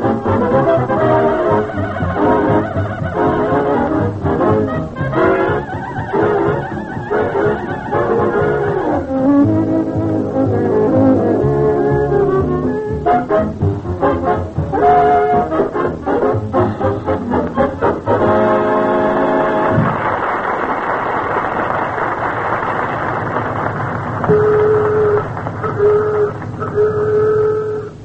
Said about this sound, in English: what you just heard was … playing …